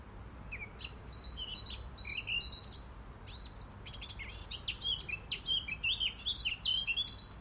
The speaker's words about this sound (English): I listened to those beautiful wee birds up in the trees, the other side of the burn.